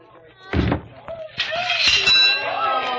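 A heavy mallet thuds onto a strength tester, then a bright bell clangs loudly and keeps ringing with a sustained metallic shimmer for over a second.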